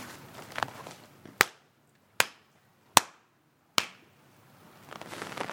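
Four sharp handclaps ring out one by one with steady pauses between them, the ritual four claps of a New Year prayer at Yahiko Shrine, each crisp with a short echoing tail, over quiet outdoor ambience.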